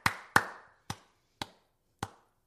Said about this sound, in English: A slow like clap. Like I did it in reverse. Like a clap noise.